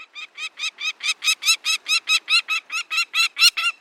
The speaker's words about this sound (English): In September, a streamlined peregrine falcon calls as it wings its way south from its Arctic nesting grounds. The pale gray falcon, which will migrate beyond the equator to spend the winter in Chile, also sends a signal to a group of scientists.